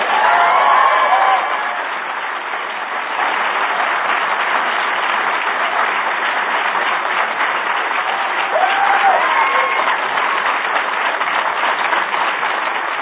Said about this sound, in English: Did you hear? You hear the applause? Of course, you hear the applause.